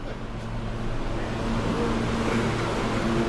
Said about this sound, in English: I can't even look at the train as it pulls away.